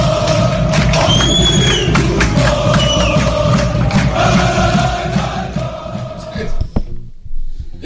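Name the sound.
football fans chanting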